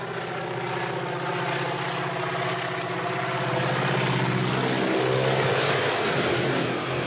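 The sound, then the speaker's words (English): A crop duster propeller plane roars loudly as it dives at a man on the ground, missing him by just feet; its engine drone swells midway and its pitch bends downward as it sweeps past overhead, with no voices. “In an instant, he dives to the ground as the plane misses him by just feet.”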